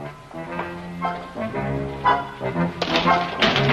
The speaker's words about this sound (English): Hey, you knocked my cleaning basket over. Bad place for a cleaning basket.